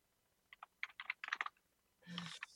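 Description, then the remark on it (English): Quick, irregular clicks of typing on a laptop keyboard, fairly quiet, ending in a brief broader rustle or thump of movement. “Damn you, laptop keyboard.”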